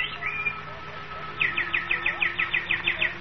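bird song

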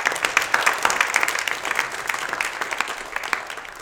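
audience clapping hands

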